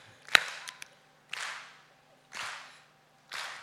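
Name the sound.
hand clap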